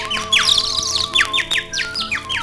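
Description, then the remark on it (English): Birds chirp and sing on a sunny spring day in a quick run of bright, high, downward-sliding notes that repeat steadily and clearly, with no talking. “The sun is shining and the birds are singing.”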